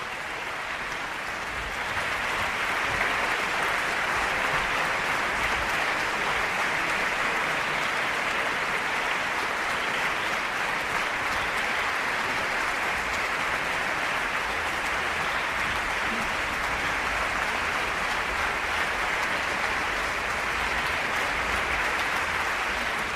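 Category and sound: crowd, concert hall audience applause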